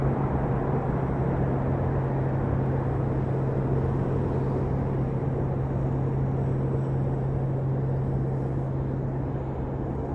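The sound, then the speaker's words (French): A muffled, steady low rumble of traffic with a persistent droning hum, dull and filtered to simulate having lost about 80% of hearing, continuous for the whole stretch with no voices. “Quand même une sorte de drone que j'entends encore et qui arrive à persister malgré tout, alors que les voitures elles sont quasiment des courses.”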